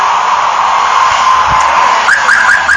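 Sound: car alarm going off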